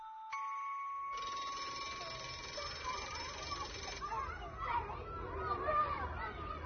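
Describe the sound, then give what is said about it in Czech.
A school bell rings steadily for several seconds, loud, marking the end of classes, then stops as a noisy crowd of children's chatter and play fills the space. “Po zvuku zvona zna da je kraj.”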